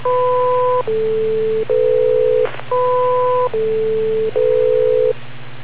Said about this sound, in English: And I noticed that each time we drop, you'll hear four tones, and then the tones stop. So if we wait for the four tones, then wait for the machine to reset the beep, we'll not be timing it out, I believe.